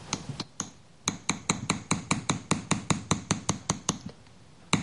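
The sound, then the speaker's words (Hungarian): A small hammer taps metal to smooth an acanthus leaf ornament, in a quick, steady series of sharp, ringing strikes, with a brief pause early on and one last tap after a gap, clear with no talking. “Kis ujjamat egy picit eltartom, mivel a kalapácsot tartom.”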